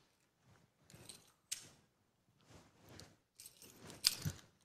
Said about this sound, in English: So I'm just going to let him catch something so you get the idea, right? Just, it's a simple thing. You've seen people do this before. Now, we're testing your ability. Yeah, you're ready. Yes. Because he's got to catch some keys.